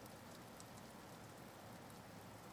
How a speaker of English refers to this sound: It's been raining for hours and I've been standing out here for, well, a while.